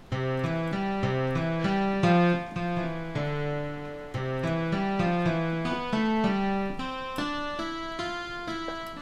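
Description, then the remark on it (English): A synthesized 12-string guitar patch played on a keyboard sounds a steady melodic run of bright, ringing notes, one after another with occasional pauses, fairly loud with no voices. “Always interesting to play a guitar on a keyboard.”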